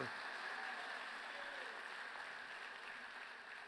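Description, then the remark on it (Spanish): A small scattering of hands clapping, soft, from about three people in a church, keeping up a steady patter for a few seconds before easing off slightly at the end. “Tres gente aplaudiendo, ¿verdad?”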